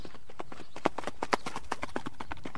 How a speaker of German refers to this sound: Was ist das für eine Gangart, Esther? Das ist der Tölt.